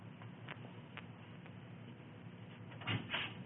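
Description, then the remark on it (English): A back door on the left is opened: a few faint clicks and a soft scraping rattle near the end, with no one talking. “would you please go back and open that back door on the left?”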